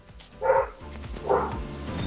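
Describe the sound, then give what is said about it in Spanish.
A dog barks twice, two short, full barks spaced under a second apart, at moderate volume against a faint background hum, with no one speaking. “Hasta el perro lo sabe.”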